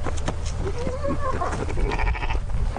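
horse neighing

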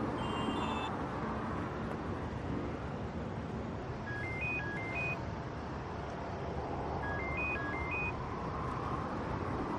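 telephone call ringing unanswered

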